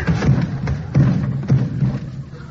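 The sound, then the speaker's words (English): A clattering tumble of heavy thuds and bumps, about five irregular knocks over a couple of seconds, like someone falling down a flight of cellar stairs, with no voices. “Well, what do you know? I fell down the cellar.”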